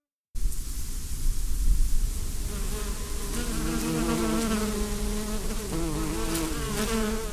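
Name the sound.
bees buzzing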